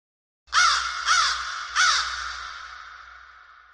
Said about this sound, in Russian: А порой... только карканье ворон.